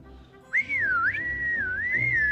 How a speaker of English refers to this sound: Whistle.